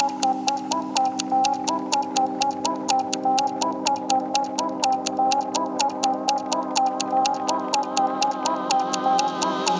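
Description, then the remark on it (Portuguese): A clock ticks in a fast, steady rhythm, each crisp tick evenly spaced, layered over a sustained melodic musical backdrop that continues throughout. “Tic-tac no relógio bate, já bateu?”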